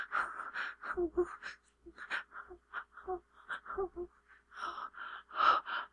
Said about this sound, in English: Daddy, shh. Your breathing is getting louder.